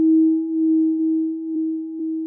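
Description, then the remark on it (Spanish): Very slowly warped cowbells sent in by Eddie Poe de Za, stretched into a steady, hollow hum that drones without a break, with faint wobbles and small pulses rippling through it. No voices. “Eddie Poe de Za envió cencerros warpeados muy lentos.”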